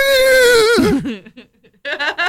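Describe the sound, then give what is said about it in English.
A voice imitates a horse whinny: a loud, high, quavering cry that wobbles and drops in pitch, followed by a few breathy, whinnying bursts. “That sounds like a horse.”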